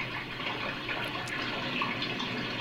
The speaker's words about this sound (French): On voit une main qui ouvre un robinet d'eau.